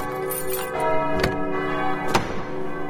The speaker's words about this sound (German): Die tiefe Glocke hat einen warmen Ton und eine interessante Geschichte. Die tiefe Glocke, es ist eine Petersglocke, ähnlich dem Kölner dicken Peter. Hier ist sie nicht ganz so dick wie in Köln, aber wiegt auch um die 2000 Kilo und ist von 1474